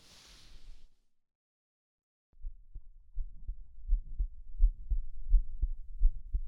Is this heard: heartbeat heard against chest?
yes